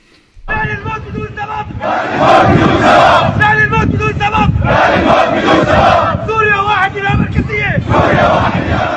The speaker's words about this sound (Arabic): وردد المتظاهرون شعارات تطالب بالفيدرالية والإفراج عن المعتقلين والتوقف عن الممارسات الطائفية التي أرهقت أبناء الطائفة على مدة عام، منها المجاز التي ارتكبت بحقهم.